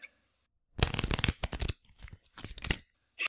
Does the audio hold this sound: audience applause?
no